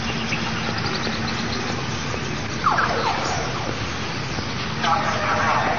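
A police car siren wails as the car passes by over steady traffic rumble, rising in short sweeping bursts before settling into a repeated warbling tone, moderately loud.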